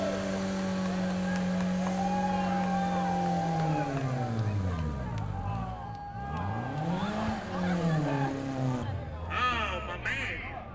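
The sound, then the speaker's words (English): A car doing a burnout on a track, its engine revving hard in rising and falling sweeps, with a high tire squeal breaking through near the end, loud throughout. “I think he feels he can do a better job destroying his tires.”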